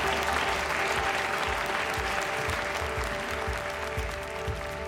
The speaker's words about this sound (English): Welch wipes another tear from his eyes, and McCarthy looks around, shocked, as the audience in the hearing room suddenly bursts into applause.